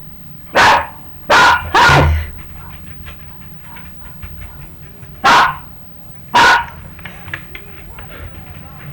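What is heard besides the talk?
dog barking repeatedly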